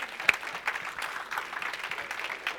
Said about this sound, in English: The three of us are going to stop and clap now that was blessed by that story.